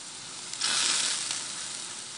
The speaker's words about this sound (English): they can also identify things like different proteins coming out of different animal fats that get onto the rock and sizzle.